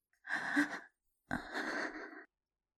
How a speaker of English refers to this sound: I moan. And whimper, gasp,